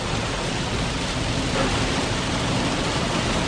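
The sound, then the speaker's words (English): Heavy monsoon rain pours against a window in a dense, steady roar of hiss and patter that holds at the same loud level throughout, with no voices. “Speaking of chaos, though, I just want you to hear the sound of the rain on the window right now because it's really intensified.”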